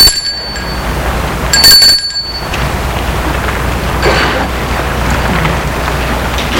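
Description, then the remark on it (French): A doorbell at the front door of a house, reached by a small stoop, rings twice, a bright, high metallic tone at the start and again a moment later, over a steady rushing background noise. No one speaks. “Il monte un petit perron et va sonner à la porte.”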